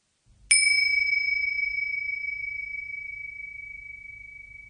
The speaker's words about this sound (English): Become still and let the sound of the bell take your attention inwards towards your breathing.